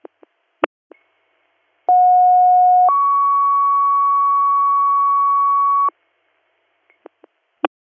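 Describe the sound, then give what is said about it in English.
A fire dispatch pager alert for Greater Valley MS plays loud and clear: a one-second lower tone jumps to a longer, higher steady tone lasting about three seconds, framed by a few sharp radio clicks. “Greater Valley MS, disregard third due tones.”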